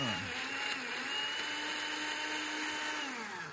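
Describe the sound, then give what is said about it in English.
A kitchen blender blends a mix of ingredients, whirring steadily, its motor pitch rising briefly at the start and dipping slightly near the end, running continuously with no talking. “I've gone and put all those ingredients into the blender. And we're going to give it a bit of a blend.”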